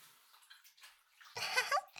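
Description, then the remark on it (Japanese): Faint splashing and trickling, then a sudden, louder rush of running water as someone washes their feet, continuing strongly to the end. “私の方はお片付けと足を洗ってから出ますので、お客様は先に着替えて待っていてもらえますか？”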